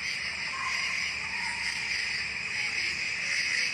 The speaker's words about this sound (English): Crickets.